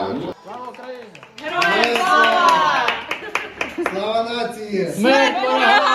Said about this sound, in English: A round of applause for the careful needlework